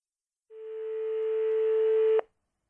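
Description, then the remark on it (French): A single steady electronic telephone tone holds for nearly two seconds, clear, growing slightly louder before cutting off abruptly, with no voices. “Au téléphone.”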